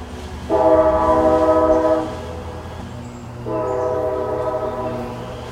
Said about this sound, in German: Ja, witzig, oder? Das ist dieses ganz klassische alte Eisenbahngeräusch.